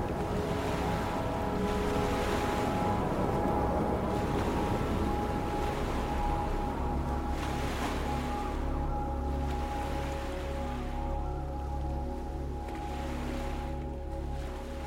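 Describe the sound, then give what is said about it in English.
A deep, churning rush of swirling water roars steadily throughout, with a low droning hum underneath and surging waves of turbulence, as a whirlpool opens up and sucks down into dark waters. “And with that, a whirlpool opens up beneath you, sucking you down into the dark waters, and to a fate worse, perhaps, than death.”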